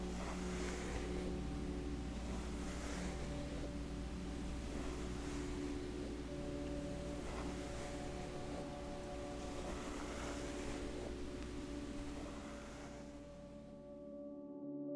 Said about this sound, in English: Today, we're going to start with some grooming. This first sound is me brushing my hair.